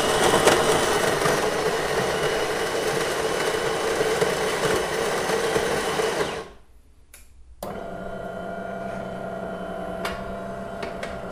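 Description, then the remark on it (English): A bean-to-cup espresso machine making an espresso into a small espresso cup runs with a loud, steady mechanical whir for about six seconds, cuts out briefly, then resumes as a lower, humming buzz as the coffee brews. No one speaks. “I'm not going to run the risk of falling foul of the coffee police by having a cappuccino. I'm going to make an espresso.”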